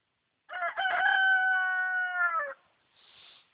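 A rooster crows once, loud, a drawn-out two-second call that drops in pitch at the end, followed by a brief soft rustle.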